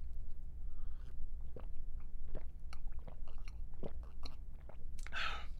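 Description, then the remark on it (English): Someone drinks water: a series of wet mouth clicks and soft gulping swallows at an irregular pace, ending with a brief breathy exhale. No one speaks. “hands me some water, because I sound like I've been smoking for 20 years.”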